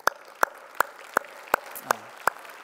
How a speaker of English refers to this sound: And for those who are new, are renewed, can we just give them a quick hand of applause and say welcome?